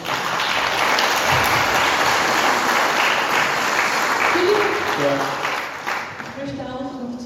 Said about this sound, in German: Ich möchte zuerst mal ganz herzlich danken euch hier, das Publikum, die gekommen sind, die es mitgemacht haben und geklatscht haben. Danke vielmals.